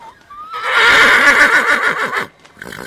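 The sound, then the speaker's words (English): A horse at a ranch lets out a loud whinny lasting nearly two seconds, its shrill, quavering call fading off, followed by a brief softer snort or nicker at the end. “We're going to come up with a plan, but in terms of exercising all the horses, the humans are outnumbered by the horses right now here.”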